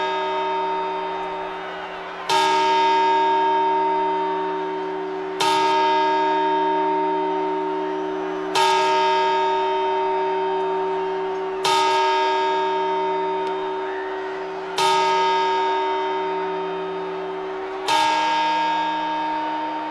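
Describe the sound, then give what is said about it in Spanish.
A large church bell strikes the twelve midnight chimes, slow, evenly spaced strokes about three seconds apart, each loud and resonant, its rich ringing overtones decaying into the next strike. “Campanadas.”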